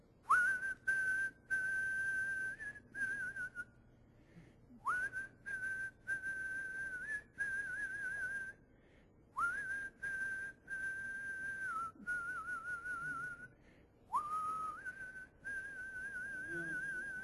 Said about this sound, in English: And so I don't sing. You know I don't sing, but I whistle. So I just started right there.